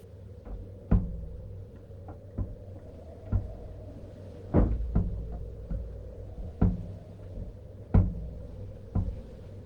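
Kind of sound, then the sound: household object, dresser drawer being opened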